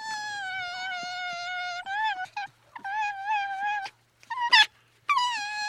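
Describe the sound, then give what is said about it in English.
A young silver fox named Philippe, born this spring, vocalizes in a string of loud, high, whining cries, two long drawn-out wails broken up by shorter yips and a sharp squeal, with no one talking. “And in case you're wondering what the fox does in fact say...”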